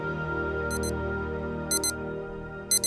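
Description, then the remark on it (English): An alarm clock sounds in sharp, high, bright double pulses repeating about once a second, over a steady low droning background with no voices. “We're surrounded by alarm clocks these days.”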